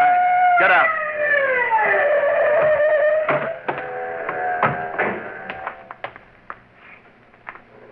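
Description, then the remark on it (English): A police car siren a block behind wails with a loud, falling pitch, then holds steady and slowly fades as scattered clicks and knocks take over, with no one talking. “Police siren, a block behind.”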